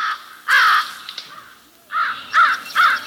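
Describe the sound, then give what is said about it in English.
A crow caws harshly and loudly, one drawn-out call followed after a pause by three quicker caws in a row, with no other sounds around them. “Anybody in a foul enough mood can imitate a crow.”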